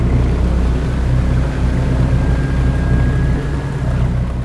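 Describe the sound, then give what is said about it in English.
A small outboard motor on a skiff drones steadily, a loud, constant low rumble with a faint whine on top, running without pause and with no voices, as the skiff carries people from a steamboat wharf out to a mooring in a harbor while it is still dark. “Captain Donald stood in the stern and motored us to the mooring.”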